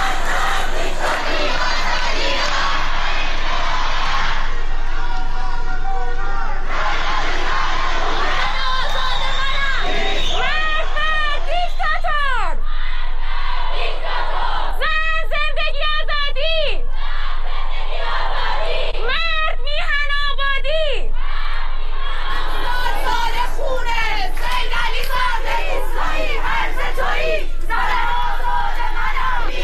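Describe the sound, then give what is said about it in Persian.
A large protest crowd chants and shouts on Farah Street in Sanandaj, Iran, on 11 Aban, where protesters blocked streets; a loud continuous mass of voices with sharp rising cries and whistles breaking through in the middle stretch. “در سنندج تجمع اعتراضی شکل گرفت و معترضان در چندین نقطه از شهر اقدام به بستن خیابان‌ها کردند.”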